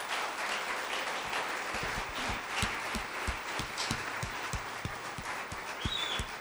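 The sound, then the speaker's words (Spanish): An audience breaks into sustained applause for God, a dense, steady wash of many hands clapping with sharper individual claps poking through, holding at an even loudness for several seconds with no voices over it. “¿Alguien puede darle un aplauso a papá por esto?”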